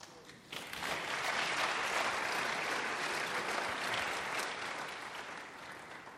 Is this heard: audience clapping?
yes